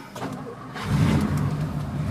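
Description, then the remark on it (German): A big car engine of almost 7 litres displacement cranks briefly, then catches and roars to life, settling into a deep, rumbling idle with low harmonic throb, fairly loud. “Der schmeißt dieses Auto mit seinen fast 7 Litern Hubraum jetzt an, weil er nach Hause fahren will.”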